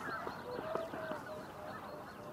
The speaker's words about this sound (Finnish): Siipien läplätys kuuluu, joo, mutta tää pariskunta ei äännelly.